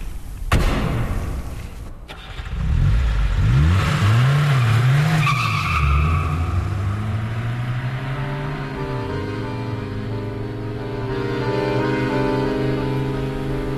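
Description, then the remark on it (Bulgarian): A car engine revs up and accelerates, its loud, wavering pitch climbing and then holding a steady roar, with a sharp thump near the start and no voices. “В колата ти седна отпред, аз отзад, така че те виждах в профил.”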